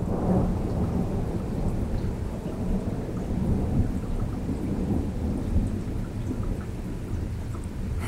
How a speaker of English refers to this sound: Wow, that was lightning and thunder in Ona.